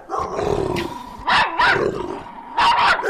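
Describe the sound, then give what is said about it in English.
Dogs growl steadily in a low, rumbling tone, broken by several loud barks that come in quick pairs and bursts. “Dogs are not happy with Michael Vick coming back, but the NFL probably will be.”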